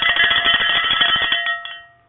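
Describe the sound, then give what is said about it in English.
A cowbell shaken fast in support of the Tampa Bay Rays as they play the Texas Rangers, its bright metallic clanks running together into a continuous rattling ring that fades out in the final half second. No one speaks. “We'll be ringing those cowbells for our Tampa Bay Rays.”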